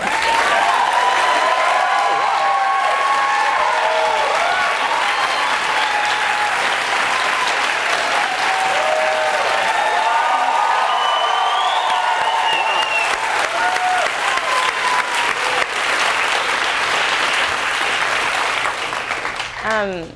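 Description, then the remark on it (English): A large audience applauds loudly and steadily for about twenty seconds, a dense wash of clapping with scattered cheers and whoops rising over it before it tapers off at the end. “So can we just clap?”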